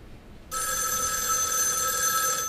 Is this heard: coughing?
no